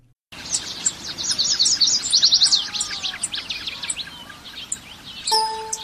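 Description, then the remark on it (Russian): Calls of a bird of paradise and a lyrebird during a mating display, shown on screens at an exhibition: rapid bright chirps, whistles and fast trills in busy overlapping bursts over a soft steady background hiss. “На экранах в брачном параде шумно расправляют крылья райская птица и птица лира”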